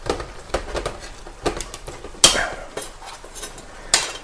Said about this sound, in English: We'll open the can of beans.